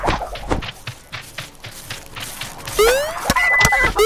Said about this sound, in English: Okay, that beep is supposedly lightning. If you jump, it will clear things out of the field.